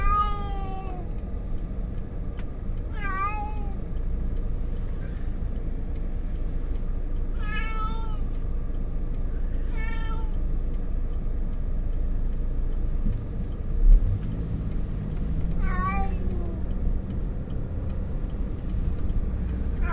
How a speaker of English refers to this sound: We got the wrong cat, maybe.